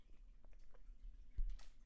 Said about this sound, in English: Oh, I got to get a sip of my coffee here. Hold on. ASMR. Yeah, ASMR.